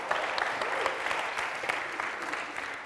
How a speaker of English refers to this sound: So first of all, something that should happen is you all should actually give me a round of applause just for making it through the names.